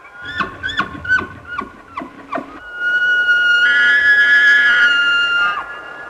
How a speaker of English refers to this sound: The wild bugling of the Olympic elk. A large bull elk tosses its head back. Soon the mountains echo and re-echo.